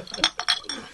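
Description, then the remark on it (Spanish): Several bright glass clinks ring out in quick succession, like glasses touched together in a toast, with faint background murmur. “Salud.”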